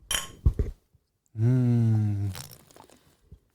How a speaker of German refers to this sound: Wollen wir nochmal anstoßen hier mit unserem Spatenbier?